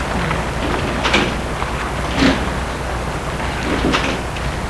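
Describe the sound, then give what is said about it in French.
A double glass door at the entrance of a headquarters building slides open over a steady background hiss, with three soft whooshing bursts spaced a second or so apart, not very loud. “Et on entre dans le siège par une double porte vitrée.”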